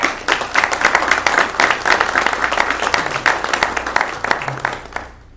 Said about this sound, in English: I have a round of applause for new hires.